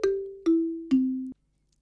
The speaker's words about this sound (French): Et voilà, quand les lames sont en bois, le son est différent. Mais s'il se joue de la même façon, il s'appelle xylophone.